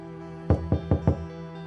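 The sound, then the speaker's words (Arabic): Four firm knocks on a locked door in quick, even succession, solid, as a mother knocks for her daughter locked inside, with a steady low hum in the background and no one speaking. “افتحي لي أنتي، ليش هيك قافلة الباب عليكي؟”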